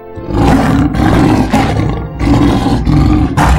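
A leopard roars loudly in a series of rough, rasping bursts, each one following right after the last with only brief breaks between. No one speaks.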